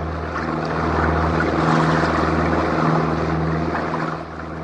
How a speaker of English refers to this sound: Must we go so fast? Fast. This is not fast, senor. We break the record soon. This the most powerful boat in all Venice.